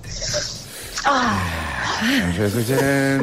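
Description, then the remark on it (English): Big, exaggerated breaths from a nervous contestant before starting: a long airy inhale, then loud voiced exhales that rise and fall in pitch, like someone theatrically huffing in and out, with no words spoken. “We need three big breaths in and out.”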